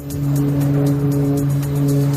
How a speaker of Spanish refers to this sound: Este es el sonido constante de los hidroaviones cargando agua para tratar de sofocar las llamas.